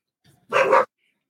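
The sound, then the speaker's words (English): A dog lets out one short, sharp bark, loud, preceded by a faint low grumble and followed by silence. “Sorry, my dogs have decided.”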